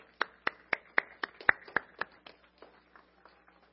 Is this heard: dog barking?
no